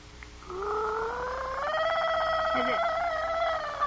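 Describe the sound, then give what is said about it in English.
A voice imitates a nightingale's song by swallowing a bit of water from a glass and warbling through it, producing a rising, sustained bubbling trill that wavers rapidly in pitch for several seconds. “Now I'll swallow a bit, and then you just listen.”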